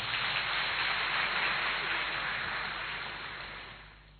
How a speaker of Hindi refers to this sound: आप सबके पास है, किस किस के पास है, हाथ खड़ा करें, वह इनके लिए जोर से ताली बजावे।